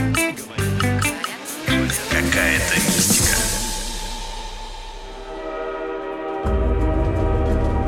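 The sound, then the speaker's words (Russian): A metro train rumbles loudly through a tunnel, a steady low roar with rhythmic clatter of wheels, a screeching metallic whine rising and falling midway, then the heavy rumble swells again. “Вот едем мы с вами в метро.”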